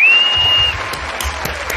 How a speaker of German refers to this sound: Weil, und an der Stelle kannst du jetzt feel free einen Applaus einzuspielen.